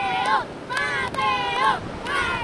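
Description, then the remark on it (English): A steady wash of ocean surf rolls under indistinct voices calling out, with a breezy, rushing texture and no clear individual wave breaks, at a surfing beach across the street from St. John's School in Puerto Rico, where students with surfboards catch waves. “They just go across the street and with their surfing boards to catch some waves.”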